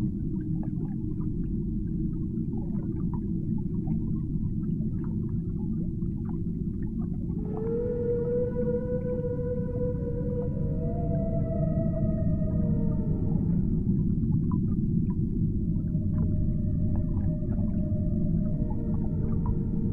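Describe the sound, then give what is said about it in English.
Long, drawn-out whale calls rise and glide over a constant deep underwater rumble, some tones sliding in pitch and overlapping, followed by a second set of sustained moaning notes. “What do you imagine their songs could mean?”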